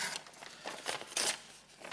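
A sheet of A4 paper held in the hand is torn up in several quick, crackling rips, with one louder rip near the middle and short pauses between tears. No one speaks.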